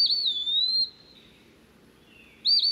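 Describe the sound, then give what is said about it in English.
An eastern peewee sings a clear, high, slurred whistle that drops in pitch, then after a short pause starts another rising whistled note, with no other sounds around it. “Pretty much whistling out its name, peewee.”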